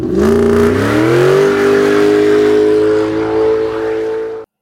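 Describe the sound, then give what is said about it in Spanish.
A car engine revs up as the car leaves for the beach, its pitch climbing over the first second or so, then holds a loud, steady drone before cutting off abruptly. “Papá Gato dio la indicación para subir al carro e irse a la playa”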